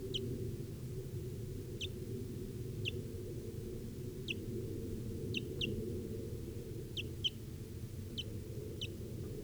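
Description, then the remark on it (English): High, thin chirps from a barely fledged wild baby bird, recorded at 10:09 a.m., repeat every second or so, sometimes in quick doubled notes, over a steady low rumbling background hum. No one speaks. “Recording of the wild bird here now.”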